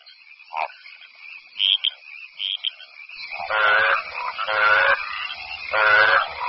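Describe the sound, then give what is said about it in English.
A chorus of frogs giving competing courtship calls over one another: scattered chirps at first, then loud, raspy, pulsing croaks that swell in three close bursts, with no voices. “The cacophony of competing calls seems deafening to us, but frogs' ears are tuned to hear only the calls of their own kind.”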